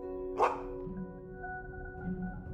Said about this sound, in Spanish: Pronto, en la tierra lejana, comienzas a escuchar unos ladridos.